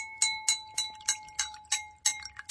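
A spoon gently taps the side of a glass of water about eight times in a steady rhythm, each strike a bright, ringing tone that lingers briefly before the next tap.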